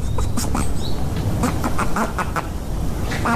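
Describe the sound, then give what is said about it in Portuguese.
A performer imitates a duck, letting out a string of nasal quacks at an uneven pace. The quacks are fairly loud, and no speech is heard. “Eu adorei o pato.”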